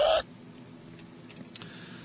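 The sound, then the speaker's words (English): A single short, loud, nasal pig snort sound effect bursts out at the very start, then only a faint low hiss fills the remaining seconds. “Do I have a pig sound effect?”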